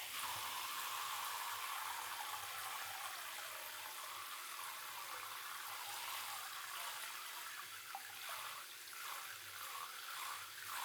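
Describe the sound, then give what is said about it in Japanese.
Water pours and splashes steadily, a continuous hissing rush that shifts slightly toward the end as it rinses soap foam off. No voices. “流してください。泡が目に入っちゃうから。”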